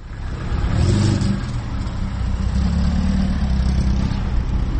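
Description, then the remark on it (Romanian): A vehicle engine rumbles and revs at the bus station in Cimișlia in the afternoon, a steady low drone rising in surges amid general outdoor traffic noise, with no voices. “În după amiaza acestei zile am zăbovit în preajma gării auto din Cimișlia, locul în care oamenii așteaptă fără mare grabă autobuzele, prin urmare au timp să stea la taclale.”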